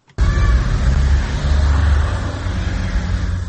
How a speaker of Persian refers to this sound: ماشین های خدمتی منصبداران سطح بالای حکومت تاجیکستان است که صبح بر وقت از قرارگاه خود از محله یکم سویتسکی شهر دوشنبه خارج می شوند. ماشین های خدمتی منصبداران تاجیکستان خیلی گران ارزشند.